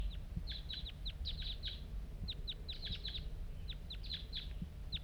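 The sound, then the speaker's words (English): A lone wild bird calls nearby at a trap site in the morning, in quick, repeated high chirps, clustered in short bursts of two to four notes with brief pauses, over a steady low rumble of background noise. “There's a wild bird around here.”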